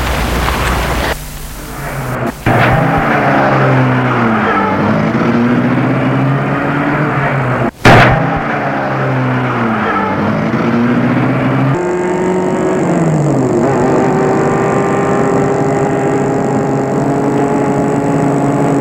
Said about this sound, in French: Lui aussi entre. Et met la voiture en route.